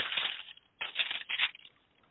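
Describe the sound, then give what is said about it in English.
Papery rustling of Bible pages being turned by several people, in three quick crinkly bursts a fraction of a second apart, moderately loud, with no voices. “some people are turning pages, so let me just wait a little.”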